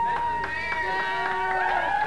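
A crowd cheers and applauds in a steady, loud wash, with sharp scattered claps and sustained high whoops running through it from start to finish. It is a hometown Syracuse welcome for a Syracuse native brought up as the man of the hour.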